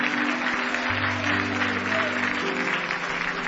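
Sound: audience hand clapping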